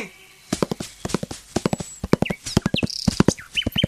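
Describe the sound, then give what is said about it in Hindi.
Steady clip-clop of the hooves of a mare named Bijli, sharp rhythmic knocks, with a few faint whistly or voice-like sounds in the background. “ओ फकीर बाबा, ओ मेरे औलिया, आपने तो करिश्मा कर दिया, ये मेरी बिजली है, मेरी घोड़ी, आपका शुक्रिया मैं कैसे अदा करूं?”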